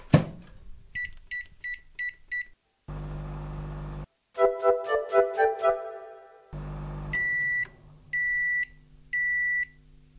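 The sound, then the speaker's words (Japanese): A 500-watt microwave oven heats a pack of rice for 1 minute 30 seconds: short button beeps, then its steady low hum of heating. A quick run of electronic tones follows, and three evenly spaced, longer beeps sound over the hum. No one speaks. “封を少し開けて、表示通りに、これは500ワットの電子レンジで1分30秒温めます。”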